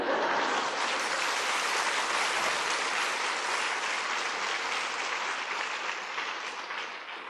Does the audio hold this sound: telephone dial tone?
no